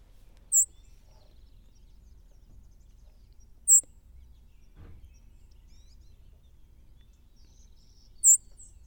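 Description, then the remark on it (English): A white-throated sparrow gives three sharp, high-pitched call notes, each a brief isolated chip spaced several seconds apart, heard clearly over a quiet, faint low background hum with no talking. “And speaking of that bird, we have a white-throated sparrow call.”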